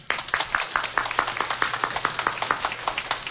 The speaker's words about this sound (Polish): Kochani, przywitajmy ich gorącymi oklaskami.